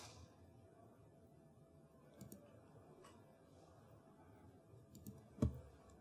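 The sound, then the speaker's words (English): A handful of sharp, isolated computer mouse clicks, spaced irregularly over a quiet hum as someone clicks on items on screen, with one louder click near the end; no one speaks. “Did I click on the right one? I think I missed the right one here. Clicking can be challenging at times.”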